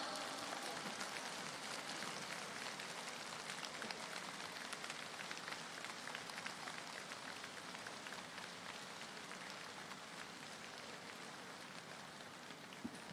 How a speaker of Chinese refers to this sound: 现在让我们用最热烈的掌声恭请卢军宏台长为我们慈悲看图腾。